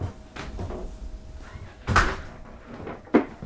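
The front door of a ranch owner's home in far northeastern Oregon opens with a couple of sharp wooden knocks and clunks, the loudest about midway and another near the end, over quiet background shuffling.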